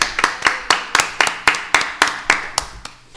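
Brief applause made of steady, rhythmic hand claps, about a dozen sharp, bright slaps at an even quick pace, fairly loud, with no talking over them.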